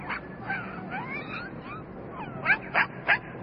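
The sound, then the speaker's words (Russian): A thin, grey dog whimpers and whines in thin, high, wavering cries that slide up and down, ending with three sharper, louder yelps in quick succession. No one speaks. “Бедный, худой какой. Хороший, хороший пес.”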